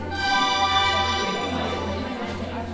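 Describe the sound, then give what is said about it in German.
A steady, shimmering electronic drone with layered synthetic tones: spacey game sounds from a blinking smartphone held by an audience member, connected to a game platform during an interactive theatre play in Berlin, holding at a fairly even level without talking. “Das Smartphone in meiner Hand blinkt und gibt spacige Geräusche von sich.”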